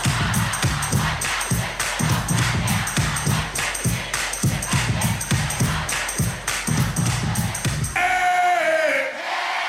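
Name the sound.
concert crowd singing along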